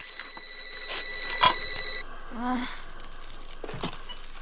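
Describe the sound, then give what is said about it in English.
A telephone rings with a fast, trilling warble for about two seconds, clear, then cuts off, followed by a brief murmur of voice and a few faint knocks. It is from the opening scene of the 1990s film Scream. “Like the 1990s hit Scream, when the opening scene made people afraid to answer their phones when they were home alone.”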